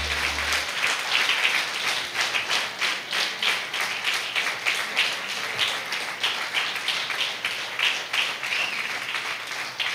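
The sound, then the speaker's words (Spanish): An audience at a church service applauds God steadily for the full length, many hands clapping in a dense, crackling wash with a loose pulsing rhythm and no voices on top. “Dele un fuerte aplauso a nuestro Dios, porque Él se merece la alabanza.”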